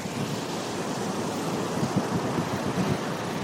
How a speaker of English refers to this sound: The gentle breeze, the rolling surf, the sounds of the beach, where the land meets the water, easing into the waves, the sand sloping underwater. It's a tranquil scene, isn't it? Certainly one that we are particularly fond of here in South Florida.